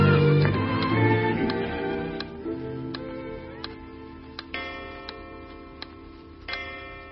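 A clock ticks steadily, sharp clicks spaced evenly about once every second, heard alone above a soft, low background hum with no one talking.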